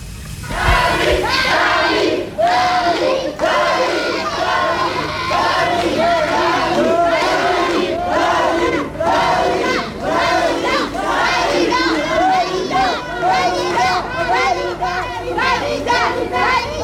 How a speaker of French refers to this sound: Mardi 15 janvier 1974, 20h30, une foule importante se presse depuis plus d'une heure devant les portes du Music Hall.